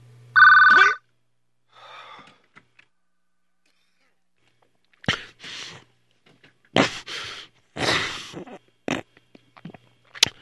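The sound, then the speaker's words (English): A telephone rings once, loud, for about a second. Then a quiet pause gives way to scattered, noisy bursts of sound. “Answer it! Answer the phone!”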